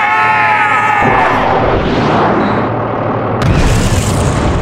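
A loud, drawn-out yell gives way to a heavy blast of X-29 cannons fired to clear rocks from the path ahead, its roar rumbling on for several seconds before a second sharp burst flares near the end.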